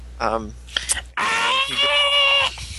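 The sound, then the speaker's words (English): A voice imitates Goku's power-up scream, as in the English version where he distracts Majin Buu: a few short wavering vocal bursts, then a loud, strained yell held steadily for over a second before cutting off. It is alone. “And Goku had to distract Majin Buu, and he does so by screaming for a full episode.”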